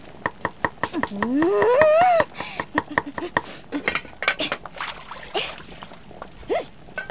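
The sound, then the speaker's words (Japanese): Rapid, evenly spaced kitchen-knife chops on a cutting board as someone cooks quickly, followed by busy clattering of utensils and pans, with a brief rising whistle-like tone early on; fairly loud, no talking. “包丁貸して。料理っていうのはね、こうやってやるのよ。”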